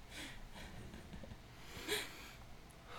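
A person sniffs a laptop quietly, a few short airy breaths in an irregular rhythm, with one slightly louder sniff partway through and no talking.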